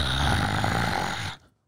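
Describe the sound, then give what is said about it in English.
A voice imitates a zombie's raspy, choking breath, a single harsh rattling growl held for over a second, loud, before cutting off abruptly into silence. “Okay, well, either way, that like choking breathing sound, you can do that too, you know, you can kind of combine them.”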